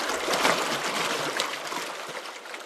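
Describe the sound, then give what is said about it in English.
Continuous rushing floodwater with a broad, steady hiss and churning texture, the Little Laramie River running high near Woods Landing, with no voices. “giving a tour of the floods in his neighborhood outside Woods Landing on the Little Laramie River.”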